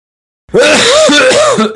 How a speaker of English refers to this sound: Pardon me there. I didn't cough on purpose. Wow. Good night. That was loud.